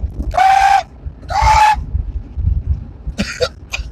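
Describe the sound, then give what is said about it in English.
A sick rooster gives two hoarse, strained crows in quick succession, raspy and breathy rather than clear, followed by a few short rough squawks, with low background rumble. “That dude got a sick rooster.”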